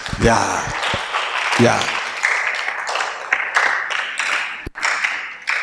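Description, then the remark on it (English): An audience claps for Jesus steadily for several seconds, a dense, loud wash of many hands, with voices whooping and calling out over the applause. “Clap for Jesus.”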